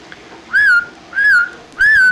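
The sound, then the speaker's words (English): A person whistles three short, evenly spaced notes to call a horse in from the pasture, each a clear mid-high tone that swells up slightly and then eases down, with quiet pauses between and no talking. “Any certain thing you whistle? Just any whistle. You gotta imitate.”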